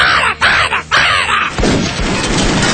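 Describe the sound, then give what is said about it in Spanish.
A southern lapwing gives its loud, harsh alarm call: a few rapid, scratchy shrieks in quick succession, followed by a burst of rough, noisy rustling. “Es un pájaro pequeño que dice, que tiene tero, tero.”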